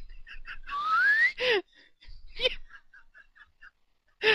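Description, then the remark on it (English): A single quick rising whistled glide, like a slide whistle, most likely a person imitating it, followed by bursts of laughter and faint chatter around it. “My trousers just whoop, like a slide whistle went off.”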